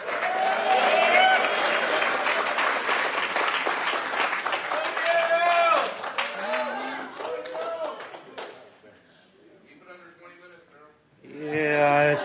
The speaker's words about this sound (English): I think you're going to find that that applause was premature, okay?